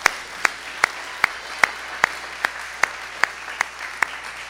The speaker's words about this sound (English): So let's give another round of applause